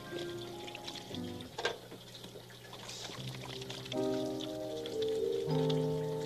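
tap water running

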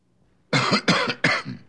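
nasty cough

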